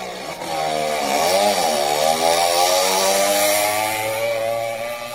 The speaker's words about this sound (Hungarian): Hirtelen nagy berregésre lett figyelmes, belenézett a visszapillantóba, és egy tűzpiros Porsche közeledett 200-zal.